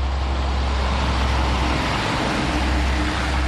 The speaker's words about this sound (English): It's a crisp day in Inez, Kentucky. Trucks hauling coal, gray-stained rigs known as coal buckets, wended their way up a narrow country road in regular intervals.